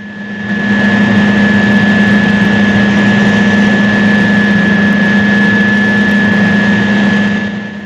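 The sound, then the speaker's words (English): A huge generator in the Antonio Bay town power station runs with a loud, steady roar, a strong low hum and a thin high whine held constant throughout, fading in at the start with no voices. “The fog streams under the doors and creeps towards a huge generator.”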